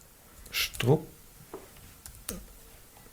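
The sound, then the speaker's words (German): Someone types a prompt into an AI chatbot on a computer keyboard, in a few sparse, irregular bursts of clicks, fairly quiet, with faint murmuring voices underneath. “tippt es gerade mal live ein.”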